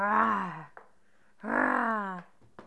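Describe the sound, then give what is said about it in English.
A young child imitates a lion's roar twice, two drawn-out, strained vocal bursts separated by a short pause, fairly loud, with a few small clicks between them. “It's a lion.”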